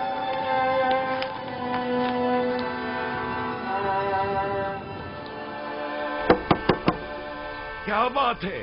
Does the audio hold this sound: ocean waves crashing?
no